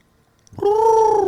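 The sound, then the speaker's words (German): After a brief silence, a human voice imitates the hoot of a Käuzchen (small owl) living in the garden: one loud, steady, mid-pitched hooting tone held for nearly a second, with no other sounds. “Ja, dieses typische Käuzchengeräusch.”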